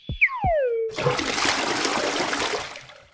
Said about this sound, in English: Once you're in the bathroom ready to go, your bladder walls contract and your sphincter, the muscle that guards the exit from your bladder, relaxes. The urine then flows from your bladder out of your body through your urethra.